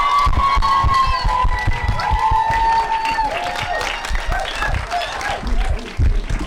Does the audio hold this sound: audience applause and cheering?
yes